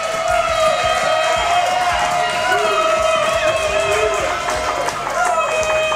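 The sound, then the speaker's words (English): A sellout crowd at a football game roars and cheers in a loud, steady wash of voices that never lets up, with a sustained tone humming beneath the din throughout. “Sellout crowd, great to see.”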